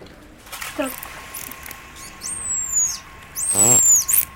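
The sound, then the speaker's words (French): The signature whistle of Aya, a female dolphin, given when she was called: two high, gliding whistles sharing the same slightly falling contour, the second louder and joined by a burst of rapid buzzing clicks over faint underwater hiss. “Et là, vous avez le sifflement d'Aya. Et la particularité de ce sifflement, c'est son sifflement signature.”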